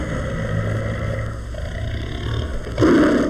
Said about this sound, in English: This low warning growl belongs to the Sumatran tiger.